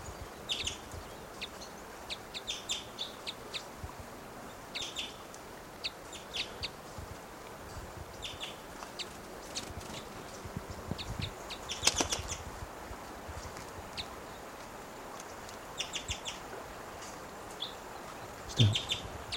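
A wild male bird flying down gives short, cuckoo-like calls, repeated in small clusters throughout, with a louder burst partway through and another at the end, over a steady hiss of background noise.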